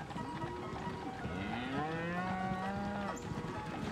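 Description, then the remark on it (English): Cows moo in long, low, drawn-out calls, one overlapping another, fairly loud, with a steady outdoor background hum and no talking. “Let me help you with these cows, Mrs.”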